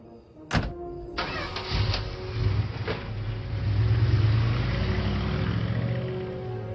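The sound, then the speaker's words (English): A sharp thunk is followed by a red truck's engine turning over as a man in a Santa hat gets in, settling into a steady rumble with a low droning hum that swells slightly toward the end. “He gets in a red truck.”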